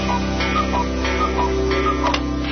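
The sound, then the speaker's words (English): A countdown clock, the Bush Countdown Clock radio feature on AM760, ticks steadily at a brisk, even pace, each tick a crisp click laid over a sustained low hum and a dense musical bed. No one speaks. “Check out the Bush Countdown Clock on AM760.net.”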